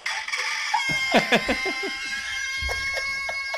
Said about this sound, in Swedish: Det här är ju ingen idyllisk morgontupp. Det här är ju en nervös tupp ju. Ja, han behöver verkligen lugna. Det här är ju varningssignaler.